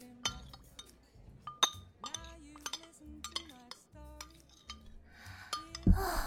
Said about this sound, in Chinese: 难得回来一次，这次一定要喝个痛快。干杯喽，弟弟。